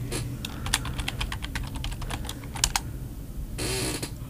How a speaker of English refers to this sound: Can you hear me typing here? Yeah. I'm trying to... It's really loud. I am trying to log into everything here.